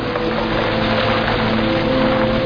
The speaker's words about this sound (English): This is fabricated rain, although. Right. Yeah. Although it rained almost every day. Every day. When we wanted it to rain, it didn't rain. It's an exterior, but it's an interior. It's on a set. This is actually a set.